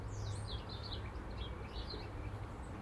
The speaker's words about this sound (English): But you always get one that goes to the top of the tallest tree and chimes out. Not really a song. The chime, beautiful kind of chime, it sings out, you know right away that's a greenie.